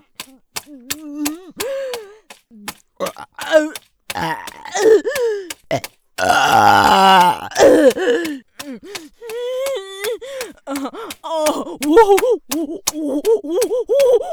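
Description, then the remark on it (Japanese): A loud, drawn-out burp rumbles for about a second near the middle, forceful, surrounded by short breathy vocal sounds, gasps and groans from a voice. “やっべ、ゲップモテる。これ以上こいたらやっべえのに。”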